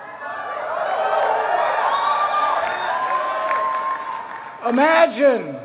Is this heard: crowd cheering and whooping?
yes